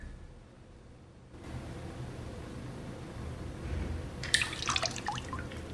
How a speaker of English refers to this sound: now in uniform, has his hands in a sink of water again, eyes closed.